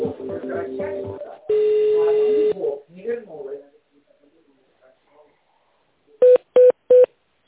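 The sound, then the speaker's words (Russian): Three short, evenly spaced telephone keypad tones, loud and clear, dial an extension after a recorded Russian voice asks the caller to dial the extension or wait for an operator and a long steady beep sounds. “Пожалуйста, наберите внутренний номер абонента или дождитесь ответа оператора.”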